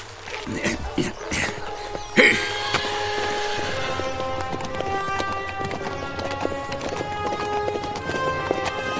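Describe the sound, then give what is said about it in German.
Hooves clatter in quick, rhythmic clip-clop as riders gallop off on horses in pursuit of a man, starting with a few sharp knocks and settling into a steady running beat, with some busy background sound layered over it. “Schnell auf die Pferde.”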